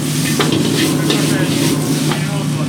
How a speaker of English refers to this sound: What is this delicious thing that's being fried right now? Yeah, right now frying the chicken, tomatoes, napa cabbage, and the mushroom, the garlic. This is very important for the hand-cut pearl chow mein. Lots of garlic.